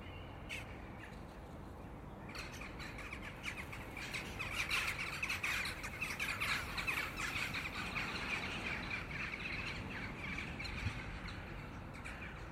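A busy chorus of jackdaws calling at a rookery, sharp overlapping chacks and caws repeating steadily over a constant background hiss, swelling louder through the middle with no voices.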